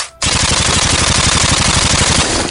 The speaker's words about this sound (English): Baker fires a burst from his Uzi.